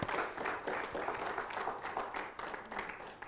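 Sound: audience applauding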